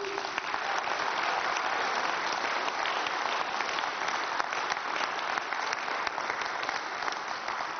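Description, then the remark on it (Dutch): Sustained applause from an audience, a dense, steady wash of many hands clapping at an even loudness for several seconds, with no voices standing out. “En ik vind dat ze een groot applaus verdienen, dames en heren.”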